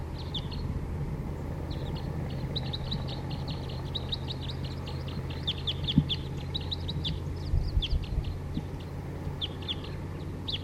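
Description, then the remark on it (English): Wild birds sing and give flight calls around a bird-catching net, with bursts of high, rapid chirps and trills repeating throughout over a steady low rumble, with a few soft clucking sounds mixed in. “Start recording wild bird.”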